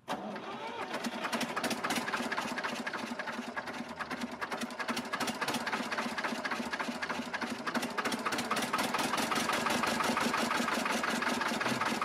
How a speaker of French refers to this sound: Bah dis donc, il est haut ton tracteur, dis donc. Oui, il est très haut. Hey, mais il fait beaucoup de bruit, je trouve. Bah oui, j'ai pas changé l'embrayage.